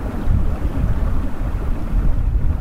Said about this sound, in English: We go our separate ways, and soon I'm back in solitude, skiing high in a mountain pass next to a river that rumbles under snow and ice.